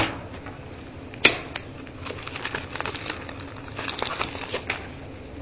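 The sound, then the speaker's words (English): Paper pages of a form rustle and crinkle for several seconds, with one sharp snap early on and a steady run of soft, crackly handling noises, no one speaking. “I've got it in the paper form.”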